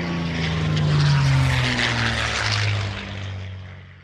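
A propeller plane's engine drones loudly and steadily, its deep buzzing pitch sliding slightly as the aircraft passes by, with no voices present.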